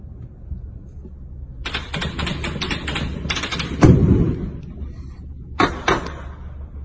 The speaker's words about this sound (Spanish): Pues ahí estamos escuchando parte de la balacera que la gente empezó a escuchar en Culiacán, que a la gente le agarró sorprendida todo esto